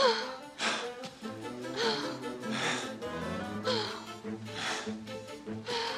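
A woman lying in a hearth pants heavily, with breathy gasps coming about once a second over a soft, sustained musical tone. No one speaks.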